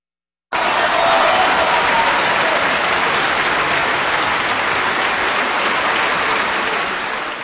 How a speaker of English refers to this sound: That applause for cellist Yo-Yo Ma and the players of the Leningrad Philharmonic Orchestra, with music of Tchaikovsky and his variations on a Rococo theme for cello and orchestra, written in 1877 here on KPR.